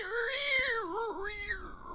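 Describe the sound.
A person imitates a screech owl with a loud, wavering high-pitched wail that quavers up and down in pitch for about two seconds, with no other sounds.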